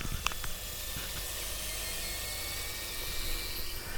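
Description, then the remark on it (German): Food in an air fryer keeps sizzling after the fryer's motor shuts off: a soft, steady hiss with a few sharp crackles early on, continuing evenly throughout with no one talking. “Wir hören es noch ein bisschen nachbrutzeln.”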